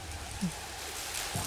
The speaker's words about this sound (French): Ça ronfle. C'est l'orage. Il y a des coups de tonnerre derrière. Boum, boum, boum. Boum.